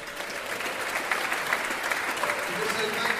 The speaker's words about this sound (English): So, thank you. This is a team effort. Please give yourselves a huge cheer.